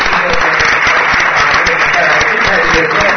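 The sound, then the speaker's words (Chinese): A crowd in Taichung applauding steadily to thank Chairman Cao, dense rapid clapping at an even, loud level throughout with no break, a broad wash of many hands. “台中的朋友，在一个热情的掌声，感谢曹董事长。”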